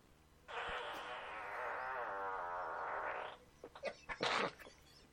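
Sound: farts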